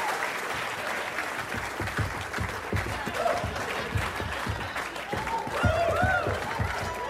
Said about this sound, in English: Just can we get a little bit of clapping? A little bit of clapping going?